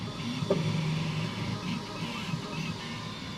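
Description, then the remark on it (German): A latest-generation 3D printer runs in a 700-square-metre production hall with a steady mechanical hum and a soft, wavering motor whine, continuous and moderately loud throughout, with no voices. “Geschäftsführer Andreas Rosa steht vor einem 3D-Drucker der neuesten Generation.”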